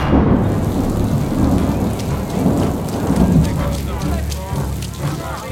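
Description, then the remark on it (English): A heavy rain downpour around a church roars steadily and loudly throughout, a dense hiss of water with a deep low rumble underneath, while faint voices murmur beneath it toward the end. “We have brought what lights we could, but in this downpour, it's hard to keep the wicks lit.”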